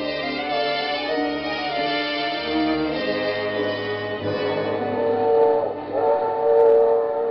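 A passenger train running, with a steady low rumble and sustained, horn-like tones that hold throughout and swell slightly toward the end. No voices.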